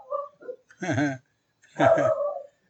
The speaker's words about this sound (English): And Bondi's barking.